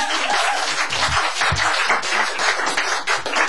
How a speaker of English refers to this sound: As you can see, the staff has assembled like they rarely assemble for any of the Studio C performances we have here. So you guys can give them a round of applause and welcome to the city.